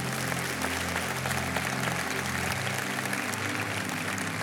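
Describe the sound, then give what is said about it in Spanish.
An audience claps steadily in praise of the Lord, a dense wash of many hands sustained throughout, with low tonal sounds like organ or keyboard chords underneath. “Le hace un aplauso al Todopoderoso Señor.”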